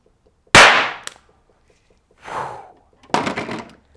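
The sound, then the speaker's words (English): A sharp, loud bang rings out suddenly as hydrogen gas bubbles, fed through a tube into soapy water, explode. It is followed by two fainter, breathy bursts of noise, like an exhale and a rustling gasp, in an otherwise quiet space. “That was a very tiny volume of gas for a very loud bang, and that is why a setup like this, it's just dangerous.”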